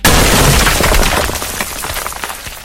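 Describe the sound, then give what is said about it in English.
A video game sound effect of a boulder crashing into brick: a loud, rumbling crash of heavy rock smashing into brick, a dense burst of breaking debris that crackles and slowly fades over a couple of seconds, with no voices. “Boulder crashes into brick.”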